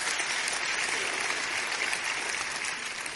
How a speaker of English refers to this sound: But I desperately do not want to become a religious person. But I do want to be a follower of Jesus Christ. And there's a big difference between the two. So it's worth clapping for.